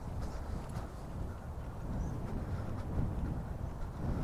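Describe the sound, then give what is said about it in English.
Steady low rumbling buffeting of wind hitting a microphone outdoors on a blustery day at Licky Hills Country Park (Beacon Hill), a dense roaring wash that persists throughout with slight surges, loud, with no voices. “Hope you can hear me with the wind.”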